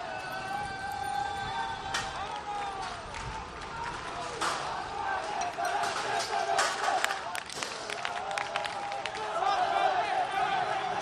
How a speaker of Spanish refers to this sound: Estoy en Gran Vía, cruzando ahora mismo esta intersección entre Nápoles y Gran Vía, y los manifestantes corriendo hacia allá. Y ahora mismo escucha el sonido porque están celebrando cómo se marchan.